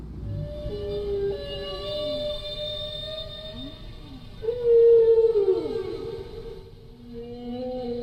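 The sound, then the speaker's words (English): A humpback whale sings a phrase of long, sliding tonal moans, then repeats it louder around the middle with a yodel-like break and warble, over a low rumbling underwater background. “Now that's one phrase, and the whale repeats its phrase and sort of yodels the second time.”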